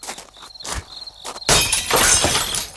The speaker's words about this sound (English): This is vandal. Stop smashing my window!